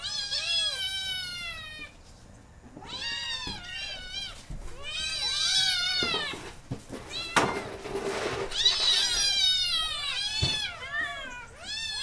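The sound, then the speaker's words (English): Several cats meow loudly and repeatedly, overlapping cries with rising and falling pitch, some drawn out into yowls, continuing steadily with only brief pauses. “Meow. Meow. Come on. More noise. Meow. Meow.”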